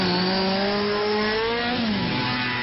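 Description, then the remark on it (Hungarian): Several motorcycles roar past at 100-120 km/h at a demonstration, their engines loud, with pitch sliding as they rev and pass over a steady road rumble. No voices are heard. “A bemutató mellett többen 100-120-szal hajtottak el.”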